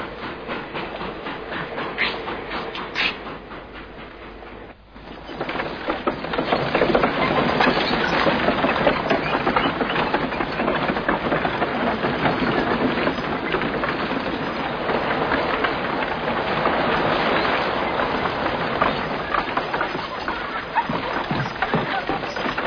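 A train rumbles along the rails with a steady, rhythmic clatter, loud, swelling after a brief dip into a continuous roar of wheels and carriages with no voices.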